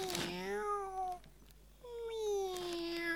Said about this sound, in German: Es miaut, Mami. Eine Katze. Ein Kätzchen. Mein Kätzchen.